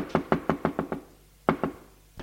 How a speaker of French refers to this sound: Il se lève d'un bond. En pyjama beige, frappe à la porte communicante.